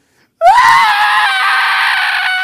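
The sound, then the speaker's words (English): A voice imitates a toddler's crying wail: one loud, sustained, high-pitched cry that rises sharply at the start, then holds steady for about two seconds. “Virtually every day a toddler has a crying breakdown at some point. And think about how they cry.”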